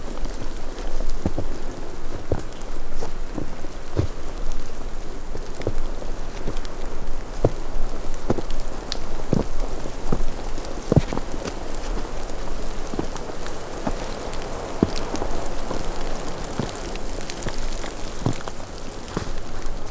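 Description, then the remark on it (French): Steady wind rushes in the background while scattered drops of water patter and tick irregularly on a surface in a snow-covered landscape, with no voices, continuous for the whole stretch. “Il y a toujours le bruit de fond du vent et ses gouttelettes.”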